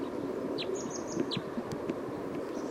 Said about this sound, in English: Recording bird 312.